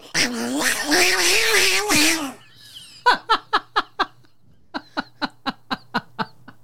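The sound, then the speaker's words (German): A person does a loud, wavering yowl imitating fighting cats for about two seconds, followed by two rapid runs of short, rhythmic bursts that sound like laughter. “Kann sehr gut kämpfende Katzen machen, Leute.”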